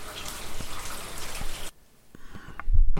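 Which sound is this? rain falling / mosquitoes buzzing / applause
rain falling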